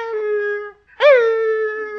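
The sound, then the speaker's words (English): A voice imitates a retriever puppy's howl: one long, steady wail, a brief pause, then a second howl that swoops upward and trails off, fairly loud with no other talking. “Well, every time I started to leave, that little puppy went...”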